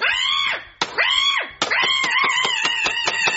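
A cat yowls loudly as it is squeezed each time a piano key is pressed: first two long, drawn-out rising-and-falling cries, then a quick run of short, sharp yowls in rapid succession, high-pitched and strained.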